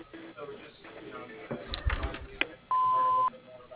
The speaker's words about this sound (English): Hello, you've reached KR Construction. Please leave a message after the beep and we'll get back to you as soon as we can. Thank you.